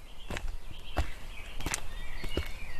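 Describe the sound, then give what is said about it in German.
Irregular footsteps crunch along a bumpy outdoor path through densely wooded land, several distinct steps spaced unevenly, with faint birdsong and soft ambient noise in the background. “Wir schritten den holprigen Pfad zurück, den wir vorhin mit unserem blauen BMW hinaufgefahren waren.”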